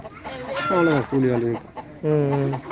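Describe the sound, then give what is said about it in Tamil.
Chickens kept at a home that also keeps goats and cows cluck in three drawn-out, throaty calls, the first sliding downward in pitch, with short pauses between them. “ஆடு இருக்குது, ஆடு வச்சுக்கிறோம், கோழி வச்சுக்கிறோம், மாடு இருக்குது.”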